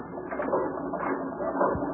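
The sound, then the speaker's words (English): A steady mechanical clatter of machinery in a newspaper composing room fills the whole stretch, dense rattling and clicking like gears and ratchets running continuously at an even loudness, with no voices. “Gee whiz, how can they compose with all this noise?”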